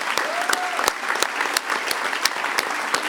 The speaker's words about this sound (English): So if I get another round of applause for all the people who volunteered in those days.